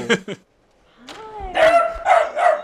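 miniature dachshund barking

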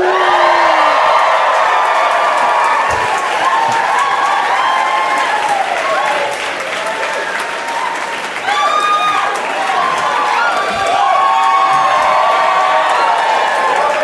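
audience cheering and whooping

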